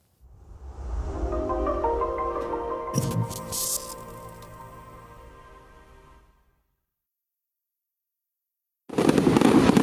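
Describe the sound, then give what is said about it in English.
Fireworks rumble and boom with a sharp crackling burst partway through, then fade into a few seconds of silence before a loud fresh burst of crackling noise erupts at the end. “This 4th of July, when you watch the fireworks, will you think about this, the Declaration of Independence?”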